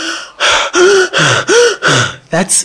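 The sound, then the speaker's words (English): Heavy, loud gasping breaths in a rapid repeated rhythm, about six deep gulps of air one after another, from a winded person who has just run three blocks at full speed. “He's breathing very deep. He's sucking in big gulps of air because he needs more oxygen than he normally would get by breathing regular.”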